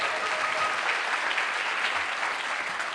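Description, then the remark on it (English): A crowd applauds a first buck, dense overlapping claps forming a continuous, fairly loud wash of sound that holds even for the full three seconds without any speech. “How about a little applause?”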